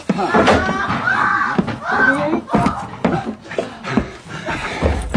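A locked and bolted room door is rattled and shoved in quick, uneven bursts as someone tries to force it open, with thumps and clattering, mixed with straining vocal sounds from the person pushing against it.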